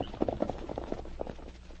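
Horse hooves clip-clop in a steady, uneven rhythm, about eight or nine muffled strikes, fading toward the end with no voices.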